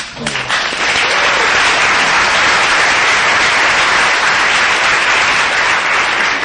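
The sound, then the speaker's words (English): Steady, dense applause from an audience, a continuous wash of many hands clapping at an even loudness throughout, with no voices standing out above it. “Don't clap yet because you got to hear what it is.”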